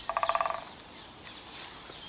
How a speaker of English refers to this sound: I listen to the birds. Amongst ones I do not recognise, I hear a crow and a woodpecker. I have heard the woodpecker for a few days, but I wasn't sure. It sounded like an old tree trunk creaking, but yes, it is, it's a woodpecker.